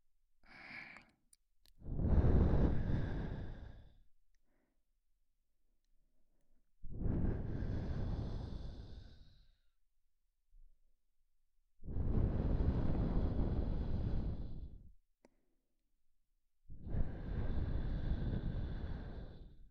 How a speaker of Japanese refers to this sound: 耳元から首筋にかけて温かい吐息が伝わるとたまらんじゃろう。